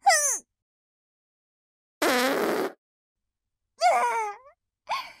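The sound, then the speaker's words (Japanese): Four loud, separate fart noises: a short descending squeal, a long raspy blast, a wavering buzzy one and a brief final toot, with silence between them. “やまびこになってしまいそうなほどの大きな音のおならじゃ。”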